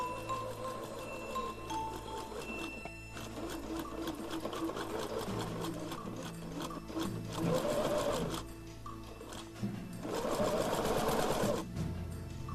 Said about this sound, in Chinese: 再把妈妈的毛皮大衣剪成一片一片的，然后就照着图画书上大熊的样子在缝纫机上忙活起来。